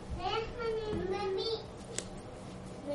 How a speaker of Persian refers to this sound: من حواسم از تردد بچه‌ها انشالله پرد نمیشه. اگه بقیه حواسشون پرد نشه اشکال نداره بیان برن.